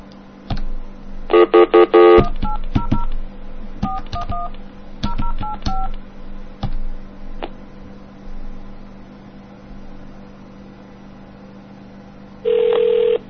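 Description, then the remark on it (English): A burst of ringing tone, then a quick run of touch-tone dialing beeps in uneven clusters, a few isolated clicks, and a final steady tone as the telephone line connects, all clear with no talking. “Let's dial, ooh, this one sounds cool.”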